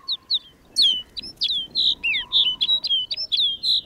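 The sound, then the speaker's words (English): A flock of sparrow-sized snow buntings calls over a barren landscape with a rapid, overlapping stream of high, sweet chirps and short descending whistles, steady, with no one talking. “Now it's clear that rolling white cloud isn't snow at all, but a flock of snow buntings.”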